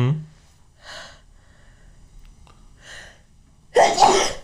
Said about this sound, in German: Gesundheit. Danke. Genau, ich habe immer noch Schwindel und. Oft nach dem Niesen direkt.